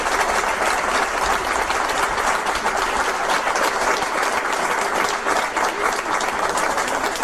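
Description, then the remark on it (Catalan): An audience claps steadily for several seconds in applause for the organizers of the event, a dense, even wash of applause at full volume with no pauses and no voices rising above it. “Primer de tot, un aplaudiment pels que heu organitzat aquest acte.”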